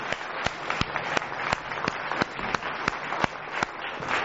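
An audience applauds steadily for about four seconds as the next speaker is invited onto the stage, a dense wash of clapping punctuated by sharper, evenly spaced claps that give it a loose rhythmic beat.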